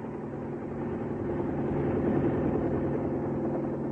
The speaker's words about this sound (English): Do you hear that? It's a helicopter.